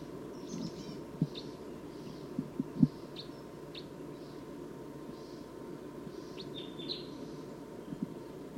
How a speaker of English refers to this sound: Wild bird's approaching a little bit closer now. Stop. So recording wild bird's calling loud now, as well as the decoys.